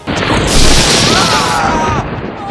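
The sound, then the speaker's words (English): A sudden, loud thunderclap as lightning strikes the craft they are flying: a sharp crackling burst that swells into a heavy, hissing boom for about a second before cutting off, with a faint voice-like tone underneath. “We've been struck by lightning!”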